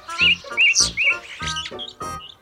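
Small birds chirp in a quick flurry of bright, repeated calls as starlings flutter out of a window and fly away, fairly loud, over a couple of seconds with no one talking.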